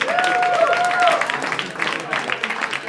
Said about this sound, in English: All right, so you guys will be voting on a winner with your applause.